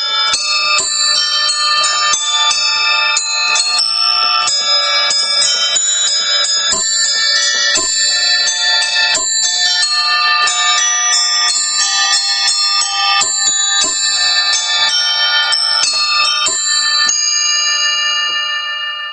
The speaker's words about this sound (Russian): Такие вещи называются карельонами. А я назвал по-своему. Это у меня колоколина российская, русская, вятская. Со своей колоколиной музыкант в инвалидной коляске гастролировал в областном центре. Играл прямо на улицах Кирова.